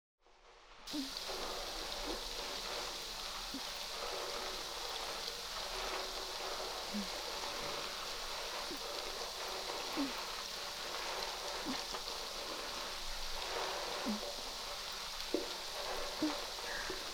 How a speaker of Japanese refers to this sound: では炭酸ヘッドスパ始めます。